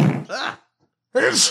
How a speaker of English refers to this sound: Wait, I just sneeze again.